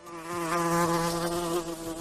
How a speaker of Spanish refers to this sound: Y este otro, que ahora vas a escuchar, es el de una velutina o avispa asiática.